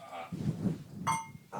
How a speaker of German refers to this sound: Richtig, das erste Bier aus grünen Flaschen. Lass mal anstoßen eben. Ja, wir stoßen auch jetzt erstmal an.